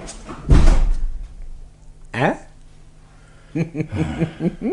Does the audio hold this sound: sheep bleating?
no